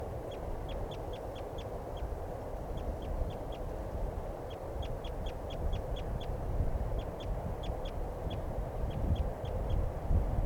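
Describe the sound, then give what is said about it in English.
A male-female pair of wild birds call in quick bursts of short, high, piping notes, several series repeating over a steady low rumbling background. No one speaks. “Both birds calling now.”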